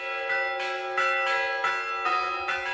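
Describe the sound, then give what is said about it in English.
Church bells in Bethlehem ring out over an empty Manger Square in a steady, overlapping peal, each strike blooming into a long shimmering tone that hangs in the air while the next one sounds, moderately loud with no voices. “In Bethlehem, not far from Jerusalem, church bells tolled over an empty manger square where Christians believe Jesus was born.”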